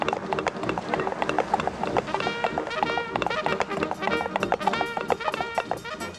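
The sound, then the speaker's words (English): Horse hooves clip-clop in a quick, steady trotting rhythm, layered over lively, busy background music with no talking. “Carry on, horse.”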